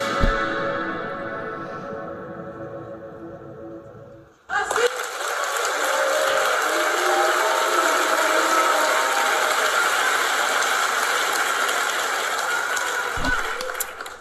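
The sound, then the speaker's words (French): A crowd's voices murmur and drone for a few seconds, then loud applause bursts out and holds steady, mixed with booing and shouts, before fading slightly at the end. The crowd is reacting after an actress shouted 'racist' at Brigitte Bardot. “Alors vous sentez qu'on se divise, la foule ne sait pas vraiment si elle doit applaudir ou huer.”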